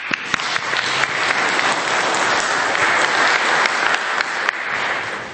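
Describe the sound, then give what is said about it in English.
Steady audience applause for the volunteers at a conference event, many hands clapping together in a dense, even wash of sharp claps that holds at a fairly loud level for several seconds, with no voices heard. “So a round of applause for the volunteers, please.”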